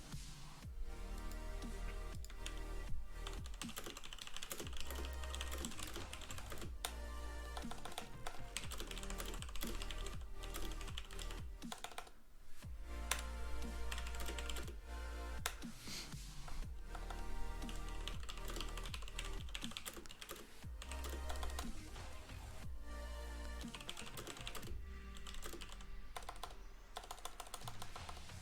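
Rapid, continuous clatter of fingers typing on a computer keyboard set to an Indian layout under Windows, fairly loud, with dense irregular keystrokes and only brief lulls over about half a minute.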